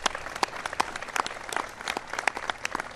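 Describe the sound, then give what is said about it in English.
A crowd applauds Gil Kerlikowske, Director of the Office of National Drug Control Policy, steadily, with dense overlapping hand claps and a few sharper, brighter claps standing out at an even, moderate loudness throughout. “Give Gil a big round of applause.”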